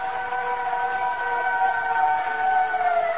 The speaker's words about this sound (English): That sound. It's just a fire siren. Just a fire siren. That's all. It's a fire siren.